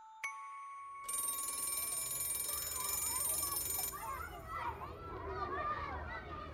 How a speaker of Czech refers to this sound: Dok teku časovi, Šaponja drema u školskom dvorištu. Po zvuku zvona zna da je kraj.